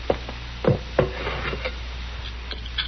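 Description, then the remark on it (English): A container of hot water is set down on a wooden chair, giving a few dull wooden clunks in quick succession, followed by faint shuffling. “Here's the water, Doc. It's hot. Thank you, Sarah. Put it down on that chair.”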